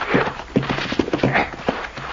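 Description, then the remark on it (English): Horses approach, their hooves clip-clopping in a quick, uneven rhythm, a steady patter of hoofbeats at moderate loudness with no voices. “The horses, boss.”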